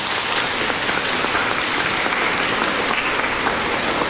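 Steady, dense applause from an audience welcoming a longtime parish priest, many hands clapping together at an even loudness for about four seconds with no voices standing out.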